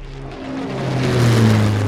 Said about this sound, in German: Das Brummen wurde immer lauter und kam rasch näher.